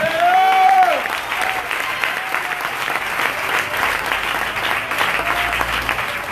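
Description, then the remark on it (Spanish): An audience applauds steadily, a dense wash of clapping that holds at an even level throughout, with a brief shout or voice rising over it at the start and again near the end. “¡Aplauda, hermano!”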